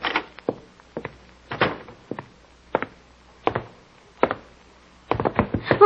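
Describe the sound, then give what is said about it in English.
A scuffle of wooden thumps and knocks, irregular and fairly loud, as a woman pushes someone out of a door, ending in a quick cluster of bangs as the door is shoved shut, with no one talking. “Dropped out of my hand when she pushed me out the door.”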